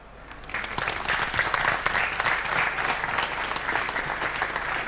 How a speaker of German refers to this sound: Also erstmal einen herzlichen Dank. Gab ich einen Applaus für den Vortrag.